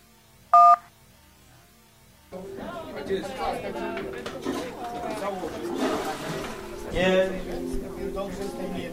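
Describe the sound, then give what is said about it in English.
A single loud, sharp telephone keypad tone beeps briefly near the start as a voicemail menu option is pressed, followed by a quiet pause and then a dense, rumbling wash of background noise with muffled voices. “If you want to hear the next voicemail, please press the 1, press the number 2 to save only this message, and press the number 3 to delete this message.”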